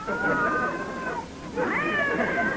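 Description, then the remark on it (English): Two drawn-out, wavering cat yowls, one after the other with a short dip between, loud, rising and falling in pitch like caterwauling. “Holy smoke, more cats?”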